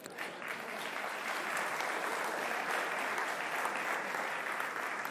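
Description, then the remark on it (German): An audience claps steadily for two people celebrating their birthdays, a dense wash of many hands that rises quickly at the start and holds at a fairly even, loud level throughout, with no voices standing out. “Applaus.”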